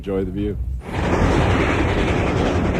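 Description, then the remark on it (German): A voice speaks briefly, then a loud, steady roar of a steam train rolling along the tracks toward the Grand Canyon takes over, continuous, with a rough, hissing rumble. “Und so dampft der Zug Richtung Grand Canyon.”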